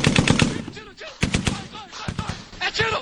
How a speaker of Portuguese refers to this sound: É tiro